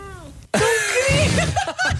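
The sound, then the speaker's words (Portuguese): A female cat meows loudly, giving a short faint call followed by a longer, drawn-out meow whose pitch rises and falls. “A tua gata sabe quando é que é para falar? Ou era a Catarina que estava a apertar para... Não, ela fala mesmo.”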